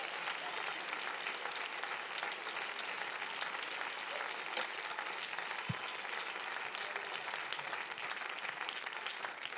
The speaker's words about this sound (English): Why don't you applaud him right now if you get that?